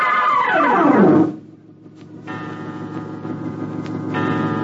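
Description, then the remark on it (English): A clock strikes twelve at midnight in the village blacksmith's home in West Branch, Iowa, in 1874, with ringing, bell-like tones. A falling musical sweep leads into steady, sustained tones with a soft ticking texture, fairly loud and clear, with no voices. “For on that night, back in 1874 in Iowa, just as the clock was striking 12, had you been in the home of the village blacksmith, you would have heard.”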